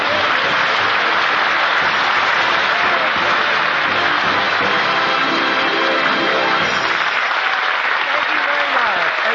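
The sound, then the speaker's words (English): Loud, sustained applause from a large studio audience and the cast, welcoming Red Skelton on the Raleigh Cigarette Program at Christmas; a dense steady roar of clapping hands with a few voices faintly mixed in. “They're all over the cast is applauding.”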